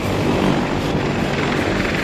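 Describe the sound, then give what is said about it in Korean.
A helicopter sent from a US aircraft carrier to evacuate people from the US embassy in Saigon: its rotor thumps steadily and loudly, a dense, continuous chopping roar with engine whine that fills the whole two seconds without letting up. No voices are heard. “모두가 미국의 항공모함에서 보내는 헬리콥터의 운명을 걸고 있었다.”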